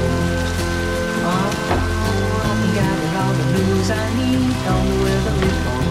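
rain falling

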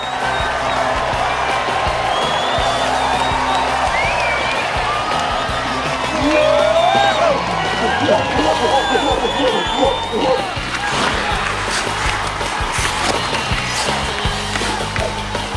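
football fans cheering

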